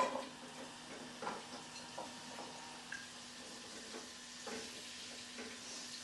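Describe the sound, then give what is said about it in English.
Chopped vegetables for a soup sizzle steadily in a frying pan, a soft continuous hiss broken by scattered pops and light utensil clicks, fairly quiet, with no one talking. “Okay, now that's all my vegetables chopped, and what I'm going to do now is I'm going to take them over to the frying pan.”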